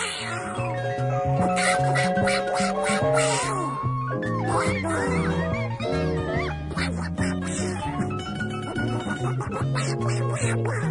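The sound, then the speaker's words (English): A raspy Donald Duck cartoon voice quacks and squawks in rapid bursts over lively piano music, both loud throughout. “Donald Duck and the piano.”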